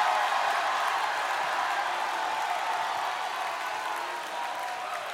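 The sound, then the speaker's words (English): Sustained applause from a crowd clapping their hands unto God with a shout of praise, a dense, steady wash of clapping with a faint undercurrent of raised voices, holding at an even level for several seconds. “Clap your hands unto God and give him a mighty shout of praise.”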